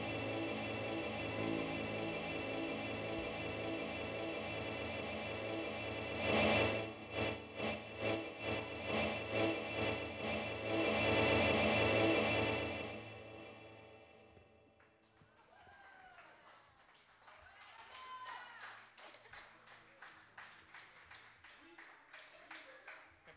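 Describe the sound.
Loud audience applause with rhythmic clapping after a live performance swells over a lingering sustained tone, then fades as people begin talking and cheering.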